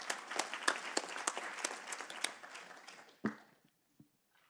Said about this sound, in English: All right, let's give Axel another round of applause.